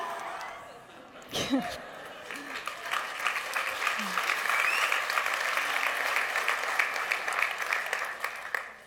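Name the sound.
crowd cheering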